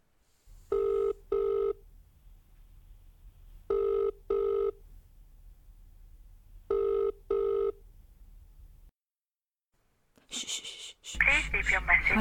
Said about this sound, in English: Wait. Let me get the phone.